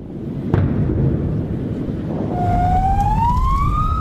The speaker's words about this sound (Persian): بمباران، صدای آمبولانس و شیون بازماندگان.